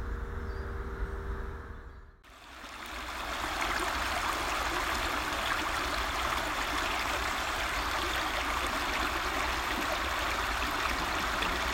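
A steady wash of water trickling and burbling over rocks, continuous, with a brief dip near the start before the flow settles into an even, unbroken rush.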